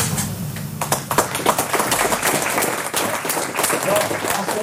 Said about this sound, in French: Il y a quelqu'un qui doit applaudir, c'est moi, parce que vous avez été formidable pour me poser toutes ces questions. Alors, merci.